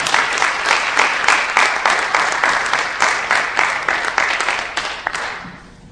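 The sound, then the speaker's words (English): A crowd applauds an archbishop steadily, many hands clapping in a dense, bright patter that holds strong for several seconds before tapering off at the end. No one speaks over it. “We give a big round of applause to Archbishop Prime.”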